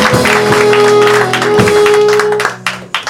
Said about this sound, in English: Welcome back to town. Thank you. Give her a big round of applause, everybody. Your regular is back. Your hero,